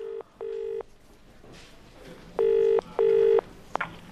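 A telephone ringback tone on a call to a house sounds in two short double bursts separated by a pause, clear and fairly loud as if heard through the handset, ending with a sharp click as the line picks up.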